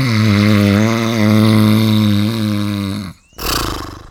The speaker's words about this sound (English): a snore. I think there's someone sleeping. And if I'm not mistaken, it's coming from over there.